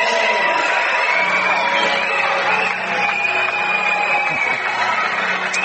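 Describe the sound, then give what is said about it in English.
A crowd in the Bodkins Gym cheering and chattering at a New Year's Eve matinee basketball game between Bodkins and Marion Local, a loud, steady wash of crowd noise that holds at the same level for the whole stretch without letting up. “Very good crowd on hand for this New Year's Eve matinee game between Bodkins and Marion Local.”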